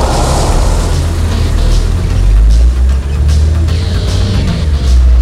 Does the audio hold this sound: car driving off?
yes